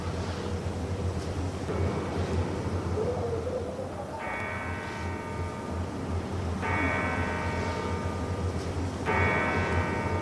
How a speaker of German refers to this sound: Ja, was ist das? Ist es ein Spuk? Nein, es ist wahrhaftig, die Glocke unserer Johanneskirche.